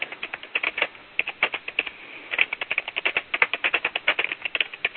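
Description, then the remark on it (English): Rapid, dense keyboard typing with sharp clicking keystrokes in quick bursts and a few brief pauses, fairly loud, with no voices. “Someone is typing furiously.”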